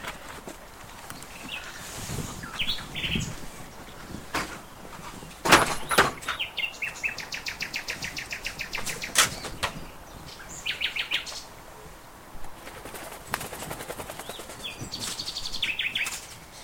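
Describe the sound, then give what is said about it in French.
Inside an eagle owl's aviary, small birds chirp and trill repeatedly while a few dull thuds and rustles sound as chicks are tossed onto the ground as food for the eagle owl, with occasional footsteps and no talking. “Alors là je suis en train de lancer des poussins pour qu'il puisse manger, parce que bon, on essaye de pas lui amener pour pas qu'il s'habitue aux hommes.”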